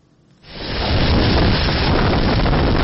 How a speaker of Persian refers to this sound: لحظه طوفان در نزدیکی مرز آلاباما در کامیره های نظارتی یک مکتب در جنوب میسیسیپی ثبت شده است. شب جمعه گذشته در دو ایالت جنوبی طوفان سخت به عمل آمد.